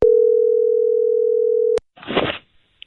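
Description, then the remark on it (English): A telephone call placed by the 98.1 CHFI radio show to Toronto's loudest snorer rings out with one long, steady, low-pitched ring tone that cuts off with a click, followed by a short burst of rustling noise and a faint tick. “We are calling the Toronto's loudest snorer right now.”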